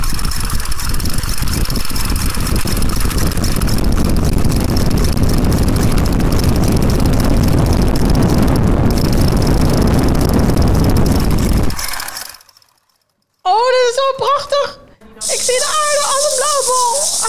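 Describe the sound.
A loud, steady rocket launch rumble roars and rattles with heavy low-end for about twelve seconds, then cuts abruptly to silence before a voice speaks briefly.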